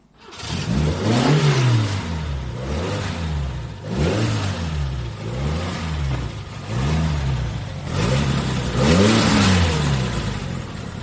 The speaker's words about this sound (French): le son caractéristique de la berlinette Alpine Renault, voiture elle aussi mythique